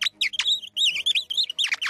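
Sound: nightingale singing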